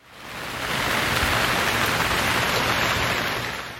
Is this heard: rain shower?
yes